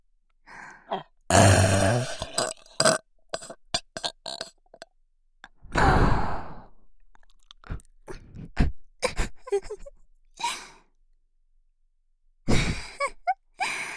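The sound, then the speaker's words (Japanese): Several loud belches in a burping contest. A long rumbling burp comes early, a deep drawn-out one follows mid-clip, and short breathy clicks and gulps fall between them, with no talking. “正々堂々 ドスケベでロイ特大ゲップで勝負。”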